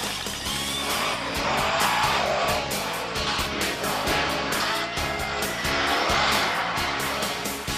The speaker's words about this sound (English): Monster trucks. The biggest, meanest, and most powerful pickup trucks you'll ever see. I'm in St. Louis, Missouri, home to Bigfoot. It's the tallest, longest, and the heaviest pickup truck in the world.